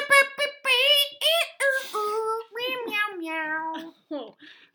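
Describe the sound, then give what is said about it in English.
A novelty horn made of cat meows plays a quick, tuneful run of about a dozen bright, nasal mews, rising and falling in pitch, loud with no talking. “Was that a cat horn?”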